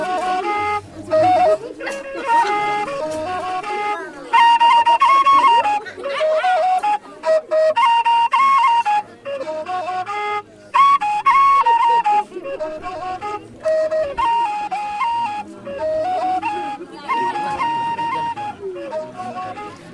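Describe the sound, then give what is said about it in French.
A breathy Fulani flute made from PVC pipe, played by a young Fulani flutist in a village in Gourma country on the border between Burkina Faso and Benin, plays a bright, wavering melody in short repeated phrases separated by brief pauses, with a low hummed undertone beneath some notes. “Il a vendu sa flûte au musée, mais il en a fabriqué une nouvelle avec un tuyau en PVC.”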